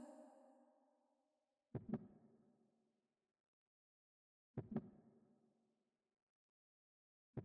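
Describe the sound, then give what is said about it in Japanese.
The speaker's own slow heartbeat thuds in paired lub-dub beats, about three seconds apart, each pulse soft with a lingering, muffled resonant tail, with no voices. “私の心臓の音、聞こえるでしょ？”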